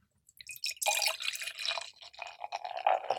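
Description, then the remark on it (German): Beer fizzing in a glass: after a brief quiet start, a dense, steady crackle of tiny popping bubbles with a bright, hissing edge continues throughout, with no voices. “Das knistert in den Ohren.”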